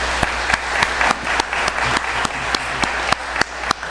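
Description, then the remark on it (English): An audience applauds the spouses and families of military-connected veterans, a dense, steady wash of many hands clapping at moderate volume, with a few sharper individual claps popping out over the roughly four seconds. No one speaks. “That should be a louder round of applause.”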